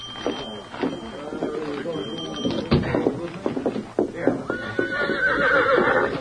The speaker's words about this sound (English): This is my horse. Steady, Victor. Steady, boy. Golly, sure's a fine horse.